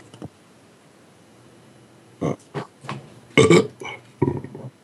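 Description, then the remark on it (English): A throaty burp, after eating a little spicy food, rumbles out in several uneven bursts after a couple of seconds of near silence, with no talking around it. “Oops, excuse me, I got a burp.”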